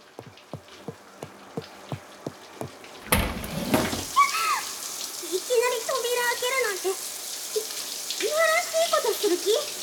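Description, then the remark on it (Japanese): A shower bursts on after about three seconds of evenly spaced clicks, then runs as a steady hiss of cold spraying water while a voice makes wordless startled cries over it, surprised by the cold water. “このシャワー冷たくてついびっくりしちゃったの。”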